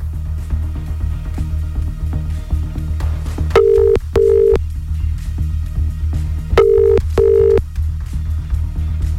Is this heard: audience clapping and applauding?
no